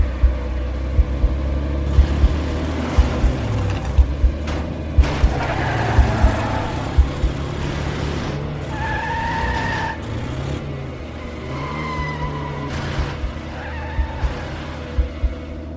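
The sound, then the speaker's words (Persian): A car engine revs hard as the car pulls away before its doors are shut, tires screeching in several shrill bursts over a steady low rumble. The sound is loud, with no voices. “همین که در ماشین رو باز کردیم و نشستیم، قبل از اینکه در رو ببندیم گازش رو گرفت و راه افتاد.”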